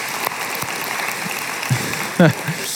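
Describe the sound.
A crowd claps steadily for a few seconds, a dense wash of applause with a brief voice calling out near the end.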